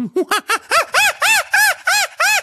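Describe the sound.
A person imitates a chimpanzee, voicing about nine hooting calls in quick succession that climb from low hoots to loud, shrill, arching screeches, a single voice with nothing else heard.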